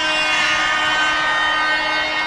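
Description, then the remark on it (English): A train horn blares in one steady, unbroken blast for a couple of seconds, loud and brassy with a rich stack of harmonics and no voices. “Did they have horn like that?”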